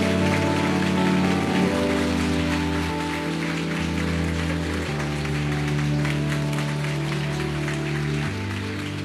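Warm applause from a church audience, a dense, steady wash of clapping that holds for several seconds over sustained, shifting keyboard chords.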